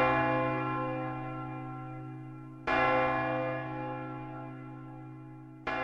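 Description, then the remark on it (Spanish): Large bells ring in a slow, steady rhythm, each strike blooming into a long, humming tone that overlaps the next, loud and resonant with no voices present. “Está escuchando este ritmo de campanas y se refiere a que este año se está terminando.”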